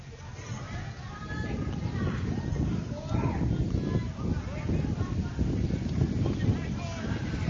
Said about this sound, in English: Wind really gusting in right now.